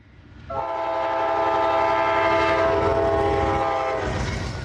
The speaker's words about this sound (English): Downtown Fayetteville, where freight trains roll past either side of City Hall